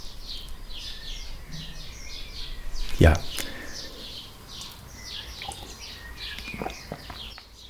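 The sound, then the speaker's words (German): Birds chirp steadily in the background, a continuous scatter of short tweets throughout, with a brief louder knock near the middle and a single spoken word over the outdoor ambience. “Und hier passe ich mich deshalb auch an, schiebe jetzt einen Abschnitt ein, wo alles so auf Watte, auf Eis liegt und ihr einfach hier im Hintergrund die Vögel zwitschern hören könnt.”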